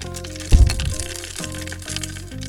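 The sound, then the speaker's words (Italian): A broken blender grinds and rattles with a harsh, uneven crackling texture, opening with a loud low thump, while a slow blues song plays underneath. “Crying anche il mio frullatore.”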